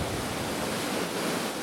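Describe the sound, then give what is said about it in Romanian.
A steady, dense roar of rough sea surf mixed with gusting wind around a ship in a storm at sea, loud, with no break or let-up over the short stretch and no voices. “Oprește-te, vânture!”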